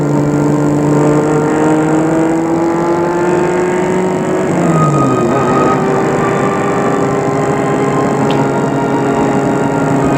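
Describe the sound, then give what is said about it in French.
A car drives steadily into Paris on the ring road and along the quays, with a loud, continuous engine hum, the pitch dipping briefly midway as it shifts or slows. No one speaks over the constant road noise. “Il prend le périphérique et entre à Paris en suivant les quais.”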